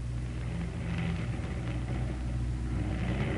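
A steady, droning engine hum with a deep, throbbing low end holds at a constant moderate loudness throughout. It is a propeller aircraft, the plane called the Coffin, coming in for a crash landing with one motor out after its 50th and final mission.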